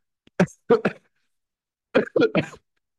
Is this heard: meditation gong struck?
no